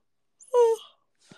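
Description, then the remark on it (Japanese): A single drawn-out vocal yawn, a breathy rise swelling into a short moaning tone that fades away, followed by a faint breath. “やばい、マジで、あくびが止まらん。”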